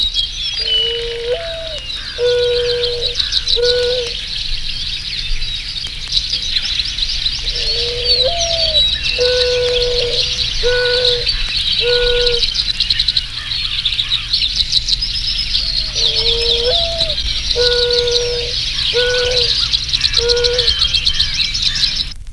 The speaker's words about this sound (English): If the birds were to form an orchestra, the mourning dove would be the cello. She did say the mourning dove would be the cello.